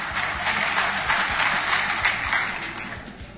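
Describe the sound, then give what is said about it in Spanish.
Politicians in a crowd clap steadily during a speech on democracy and political parties, a dense crackling wash of many hands that holds for a few seconds before easing off slightly at the end. No one speaks over it. “Aplaudieron los políticos.”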